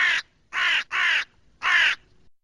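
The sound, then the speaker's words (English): A crow caws four times, harsh and raspy, in an uneven rhythm with short pauses between calls, with no other sounds around it. “In Czech, it is crows that flock together.”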